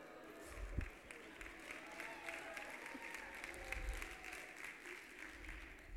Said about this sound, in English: Okay, thanks for clapping for kids. All right. Wow. Okay. Delayed reaction on that one. We're a bunch of baby haters? What's going on? Clap for marriage, not babies.